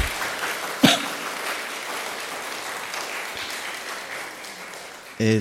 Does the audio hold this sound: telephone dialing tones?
no